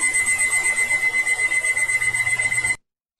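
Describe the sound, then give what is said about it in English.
A loud, steady electronic alarm clock ringing inside the walls of a house in Ross Township, Pennsylvania, with a rapid pulsing buzz for nearly three seconds, then cutting off abruptly into silence. No voices. “That was an alarm clock.”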